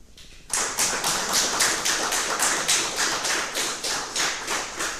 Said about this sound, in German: Einen großen Applaus erstmal.